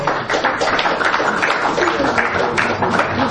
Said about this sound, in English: Thank you, I reckon that's justified, that clapping.